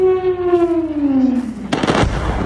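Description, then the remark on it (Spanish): A descending whistling tone glides downward for over a second, then a sudden loud explosion bursts in with a rumbling, crackling tail, one of several explosions in Venezuela. No one speaks. “en Venezuela hace tan solo unos minutos han registrado varias explosiones.”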